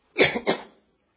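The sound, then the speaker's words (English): A single fairly loud throat clearing with two quick raspy bursts, lasting well under a second, followed by silence. “Pardon me, I'll have to clear my throat.”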